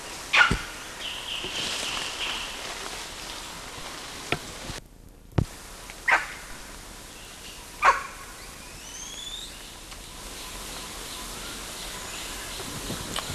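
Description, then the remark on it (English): Several sharp, short barks from an adult male animal (LB) come at irregular intervals, with faint, high-pitched squeals and a few barks from another animal (CW) mingled in between, all over a steady background hiss and with no one speaking. “Somebody barking and someone else squealing.”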